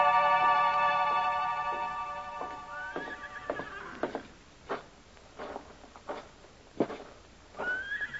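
A horse lets out a long, loud whinny in a stable, followed by scattered hoof clops on a hard floor and a second, shorter neigh near the end. No one speaks.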